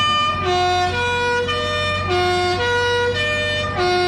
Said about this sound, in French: C'est le Guillaume Tell de Rossini qui fait office de klaxon.